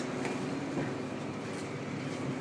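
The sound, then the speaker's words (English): A steady, fairly loud wash of hiss and rumble as tyres swish through water on a wet road while traffic passes on a dark, very cold Sunday afternoon, with no clear breaks between vehicles and no talking. “You'll be able to hear the water on the road as traffic comes past.”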